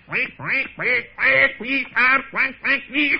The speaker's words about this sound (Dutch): Maar voor het zover kwam, hoorde hij vlak bij zich in het riet een hevige kwaak.